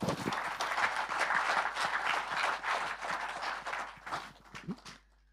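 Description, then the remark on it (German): An audience claps steadily for about five seconds, dense, then the applause thins into a few scattered claps and stops. “Vielen Dank und ein herzlicher Applaus für Raphael.”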